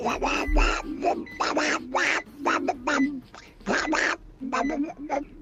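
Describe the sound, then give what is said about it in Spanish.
A duck quacks loudly, a rapid string of harsh, nasal calls in uneven bursts with brief pauses between groups. “Bueno, pues Pato, tenemos sonido de Pato”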